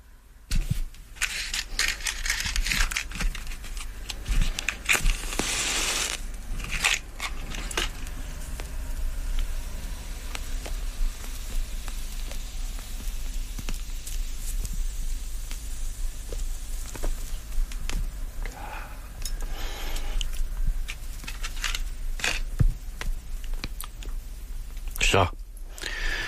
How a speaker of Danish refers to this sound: Fået ild på cigaren, skal jeg nok komme i stødet.